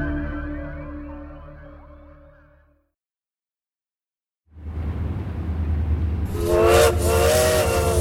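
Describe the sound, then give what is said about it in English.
A long steam train whistle sounds with sustained harmonic tones that fade out, then after a pause a hissing rumble of steam builds and a second, louder whistle blast cuts through with wavering pitch. “The call of the lonesome train whistle can be a cruel mistress.”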